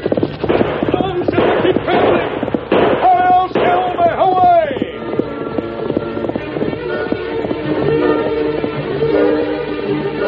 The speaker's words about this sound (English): You know, seems like ever since that masked fella rode out of here, I keep hearing that horse of his. I keep hearing them hoofs a-pounding and pounding.